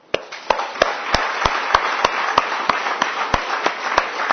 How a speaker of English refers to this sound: Let's give thanks to the Lord and let's give them also an applause.